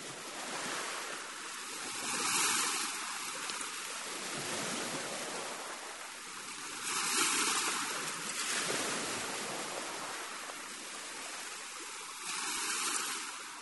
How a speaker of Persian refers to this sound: این آوای طبیعت. این آوای دریاست.